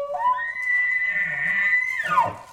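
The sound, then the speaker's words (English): An elk bugles: a high, reedy whistle slides upward and holds for about two seconds, then breaks and drops into low, rough grunts. No voices are heard. “That's what an elk sounds like?”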